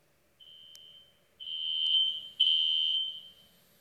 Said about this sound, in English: It's a fire alarm, right? Fire alarm. I just let you listen to a fire alarm.